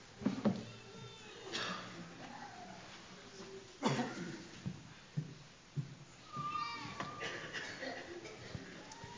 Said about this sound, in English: Church, I love that our collective sound as we sing is beautiful, and as we cough, sneeze, and hack, it is disgusting. It's that time of year.